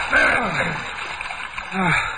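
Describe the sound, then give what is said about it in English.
Water splashes and sloshes continuously, fairly loud, in a crypt filled with water, as if someone is wading through it, with a voice straining and groaning faintly beneath the churning. “Look, the crypt is filled with water, just like you said.”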